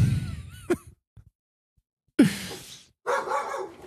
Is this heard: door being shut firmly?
no